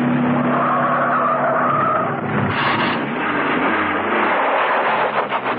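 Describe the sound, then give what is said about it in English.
Car tires screech in a loud, sustained skid as a car stops and reverses at the exit ramp of a car park, then tears down to the entrance, the squeal wavering over a roaring engine before breaking into rougher, gritty scraping toward the end. “At the ramp to the exit, she stopped, reversed, and tore down to the entrance.”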